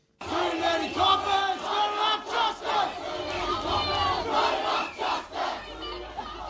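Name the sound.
protesters chanting slogans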